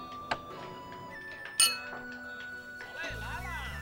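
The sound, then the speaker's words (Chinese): Two small teacups clink as they are set down in a quiet teahouse: a light tap, then a brighter, ringing clink about a second later, followed by a soft, wavering rush of sound. “王二持两盏小盅坐在了风铃儿面前。”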